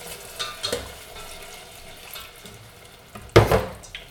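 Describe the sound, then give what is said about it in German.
A loud hissing burst as 150 ml of water is poured into a hot pot on the stove and stirred into a yeast mixture, sizzling sharply for a moment before settling back into a low background simmer and faint stirring noises. “So, jetzt tun wir das wieder auf den Herd, lassen das wieder kochen und jetzt geben wir das Wasser dazu.”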